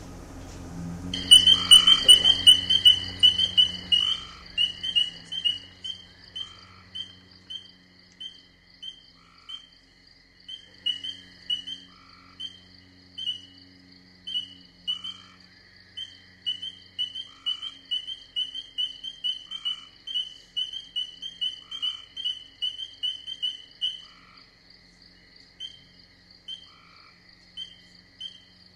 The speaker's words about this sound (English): So I had already gotten spring peeper up so we could hear what a spring peeper sounds like. If it cooperates with me.